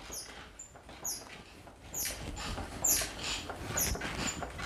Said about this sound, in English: See how it's starting to squeak back again? That's a screw.